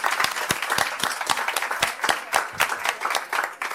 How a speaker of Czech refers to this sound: Prosím, velký potlesk.